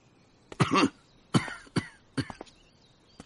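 A series of harsh, raspy coughs in three separate bursts, the first longest, followed by shorter hacking coughs and throat-clearing, as an old doctor walks step by step into a large room, fairly loud with no talking.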